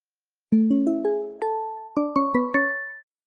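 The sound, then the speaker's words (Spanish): A bright melodic chime: five struck notes climbing in quick succession, a short pause, then four more ringing tones, each sustained and overlapping, clear with no voices. “Mandamos, por cierto, un saludo, hablando de campanadas y hablando de Canarias,”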